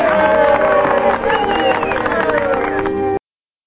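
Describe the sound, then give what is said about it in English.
In a film scene, a crowd of people of color cheers and shouts for a call for brotherhood in a loud, steady wash of voices that holds for about three seconds before cutting off abruptly. “Yeah, so that's the people of color cheering there for that sentiment that we've got to do this.”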